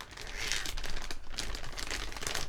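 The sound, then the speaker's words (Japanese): A large Ziploc plastic zipper bag, used to store a silicone Big Orga, crinkles and rustles continuously, with bright, crackly bursts rising and falling over a couple of seconds, fairly quiet and without any voices. “シリコンできたでできたこいつをジップロックの大きい袋にしまってあるんです。”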